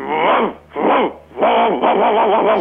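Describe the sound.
A person imitates a dog barking with four drawn-out, voiced woofs in quick succession, fairly loud, with short pauses between them.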